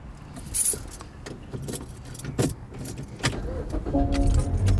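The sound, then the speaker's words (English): Keys jangle and rattle, followed by a car engine starting and settling into a steady low idle, with a few sharp clicks and bumps from inside the vehicle. “Can you start the fucking car and roll the window down so I can get some air?”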